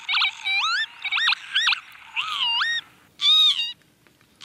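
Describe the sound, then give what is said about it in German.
Northern lapwing calls: a quick series of nasal, wheezy whistles, each swooping up and down in pitch, ending with one louder, drawn-out cry, with no voices present. “Er kämpft nämlich dafür, dass diese lustige Vogelstimme auch in Zukunft in Bayern noch zum Hören ist.”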